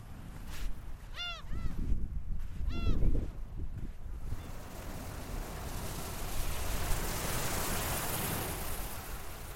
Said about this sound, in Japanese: キョンポー海岸は全長2キロに達する白い砂浜と涼しげな松林が調和した魅力的な海岸です。海岸に着いたのは午前4時半。砂浜に座っていると海岸に打ち寄せる波の音が聞こえてきます。